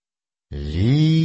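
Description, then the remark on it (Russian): After a short silence, a fox lets out one loud, raspy call that starts abruptly and rises in pitch as it holds, harsh and strained. “Лиса.”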